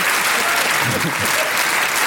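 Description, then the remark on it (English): Sustained applause from a crowd, a dense steady wash of many hands clapping at once, loud and even throughout with no voices standing out above it. “You can't stop applauding.”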